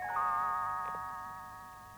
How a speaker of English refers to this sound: You will know it is time to turn the page when Tinkerbell rings her little bells, like this.